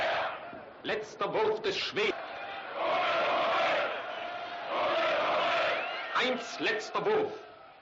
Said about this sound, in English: The crowd is whipped into a violent frenzy. As you can see here, they are making motions as though they are chopping or slicing the other folks in the crowd, the other nationalities.